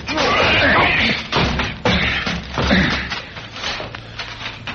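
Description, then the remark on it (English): A door is forced open with several heavy, irregular thuds and crashing slams, ending in a splintering smash, while voices can be heard faintly underneath. “Try the door, Parker. And a soap. Well, come on, break it down.”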